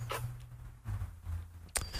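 Loud keyboard typing: a few sharp, irregular key clacks, the last one the loudest, over a steady low hum with no one talking.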